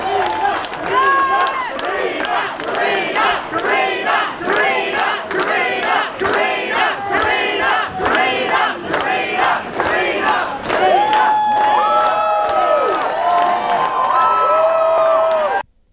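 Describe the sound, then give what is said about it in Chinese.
A loud crowd of supporters cheers steadily for about fifteen seconds as Labor candidate Carina Garland appears at around 9 p.m. on vote-counting night at the Bennettswood Bowls Club in Burwood, in the Chisholm electorate of eastern Melbourne. Rhythmic clapping or chanting pulses come early on, then rising whoops and shouts before it cuts off abruptly. “是的， 他的出现呢是引起了现场的一阵欢呼啊。”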